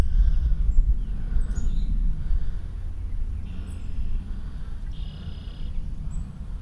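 Faint, distant chirps from a cardinal off to the left and a red-winged blackbird off to the right come in a few short bursts over a steady low outdoor rumble, with no one speaking.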